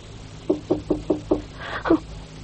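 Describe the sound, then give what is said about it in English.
Five quick, evenly spaced knocks on a locked door by a police inspector, then a short pause and one final knock, sharp, with no voices. “Is that you, Sergeant Monroe? No, it's Inspector McKenzie. Unlock the door, lad.”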